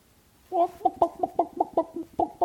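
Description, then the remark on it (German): Chickens cluck in a quick, steady series of about nine short, throaty clucks, beginning after a moment of silence, with no one talking. “Sind wir Hühner?”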